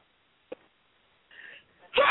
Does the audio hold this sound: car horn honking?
no